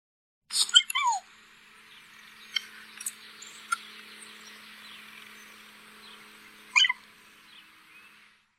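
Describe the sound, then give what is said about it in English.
A mountain lion gives high, bird-like chirping calls: a quick burst of squeaky chirps with a downward slide, a few faint peeps, then another sharp chirp near the end, over a soft hiss. “That's a mountain lion. That's crazy. It does sound like a little bird.”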